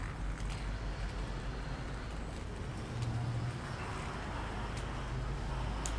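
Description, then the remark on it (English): Steady roar of street traffic passing by, a dense low rumble of engines and tires that swells slightly midway, with no voices, continuous throughout. “Not a lot of people out at this time of day. A lot of traffic, though”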